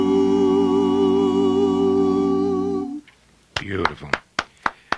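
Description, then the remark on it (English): A sustained sung note fades out, then a short burst of scattered clapping from down the hall follows, tapering to a few isolated claps that sound somewhat distant and roomy. “applause from down the hall”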